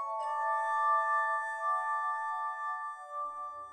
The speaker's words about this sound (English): He'd gather patients in a room decorated with celestial symbols, with glass harmonica music filling the air.